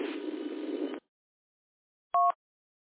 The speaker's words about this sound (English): If you listen for after my transmission, you'll hear that one. Okay, I hear it. The other one, I think, is a higher pitch tone.